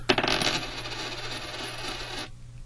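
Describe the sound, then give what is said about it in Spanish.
A coin is tossed to decide a book prize winner between a telephone caller and a WhatsApp caller, landing on sello: a sharp metallic clink, then it rattles and rings with a bright, shimmering tone for about two seconds before settling abruptly into silence. No one speaks. “Y bueno, vamos a aplicar también el siguiente mecanismo de a través de un volado, que es donde definimos a los dos, digamos, al ganador entre la llamada de telefónica y la de WhatsApp.”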